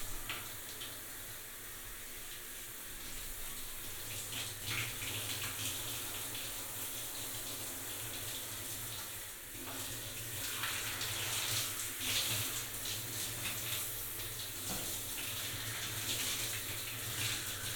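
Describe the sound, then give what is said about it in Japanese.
Steady running water pours and splashes continuously as soap foam is rinsed off a person before they enter a bathtub, with a constant hiss and small bursts of spatter throughout. “流していきます。動かないでください。泡が残ってはいけません。”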